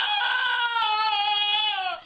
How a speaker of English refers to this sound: the donkey, lives near Galway, Ireland